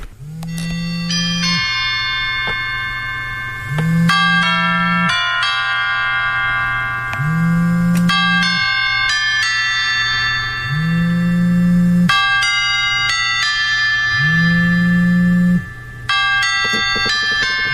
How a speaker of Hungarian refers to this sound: Ennek a bányászhimnusznak létezik egy harang változata, amit a temetéskor szoktak lejátszani. Ez például nagyon-nagyon fontos harangszó szólal meg. Ez az ön csengő hangja a telefonon?